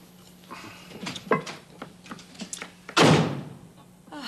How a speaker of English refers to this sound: Why does he always have to slam the door?